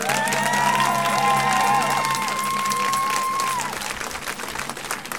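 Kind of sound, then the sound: crowd, thunderous applause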